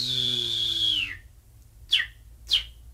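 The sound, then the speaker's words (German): A Greek bird catcher whistles: a sustained high tone slides downward and fades, followed by two short, sharp chirp-like whistles imitating the calls of edible birds to lure them into his net, over a low steady hum, with no talking. “Dieser griechische Vogelfänger imitiert die Rufe jener Vögel, die gut schmecken, und lockt sie so in sein Netz.”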